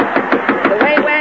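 A quick, steady series of about seven or eight knocks on a door, evenly spaced and fairly loud, with a faint tonal hum running underneath.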